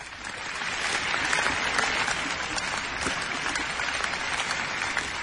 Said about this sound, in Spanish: Y es que a las 8, todas las tardes, cuando estábamos confinados, salíamos a aplaudir a todas las personas que nos estaban cuidando, especialmente las que trabajan en nuestro sistema de salud